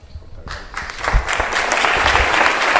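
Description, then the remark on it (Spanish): Members of the Hermandad de Jesús Nazareno, at the Casa Hermandad and the Capilla de San Bartolomé, break into applause in support of the brotherhood's hermano mayor, starting sparse and quickly swelling into steady, dense clapping that holds at a fairly loud level to the end, with no one speaking over it. “Pues ya lo están escuchando. El aplauso que significa el respaldo de los miembros de la Hermandad de Jesús Nazareno, que tanto en la Casa Hermandad como en la Capilla de San Bartolomé están, bueno, pues escuchando al hermano mayor de Jesús Nazareno”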